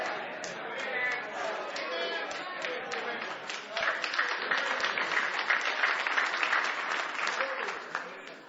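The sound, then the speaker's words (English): An audience claps its hands in a loose, scattered patter that runs steadily for several seconds, with a murmur of voices mixed in underneath. “That hand clap sounded like y'all had chicken made out of the broth of a shad of a chicken that starved to death for supper.”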